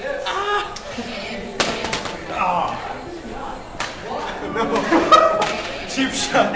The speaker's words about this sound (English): Outside Cinema 6 at Sycamore Mall in Iowa City, a crowd of nearly 40 people pay no attention to the two 20-something males who duel with plastic expandable swords complete with built-in lights and sound effects.